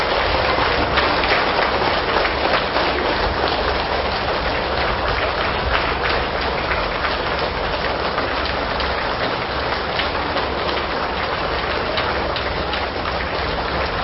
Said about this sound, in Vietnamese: Toàn thể hành giả dương cao một tràng pháo tay để cung đón chư tôn thiền đức quang lâm.